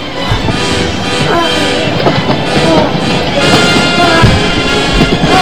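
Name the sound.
train passing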